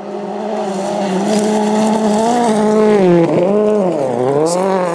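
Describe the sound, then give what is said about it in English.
Evgeny Novikov's rally car roars, its revs climbing and dipping sharply as the car slides sideways, with a hiss of skidding tires under the steady, loud engine note. “Getting nice and sideways there. And the next car's arriving now.”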